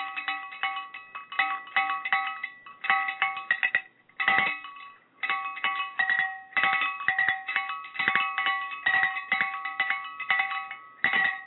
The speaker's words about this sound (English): Was that something? Hey, that was pretty good. Was it? Yeah. Yeah. I'm impressed with your jingle bell talent. Jingle bells on. Oh my God, that was jingle bells on the cowbells.